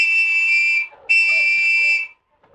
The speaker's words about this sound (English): when he heard the two blasts made by Preston's gold whistle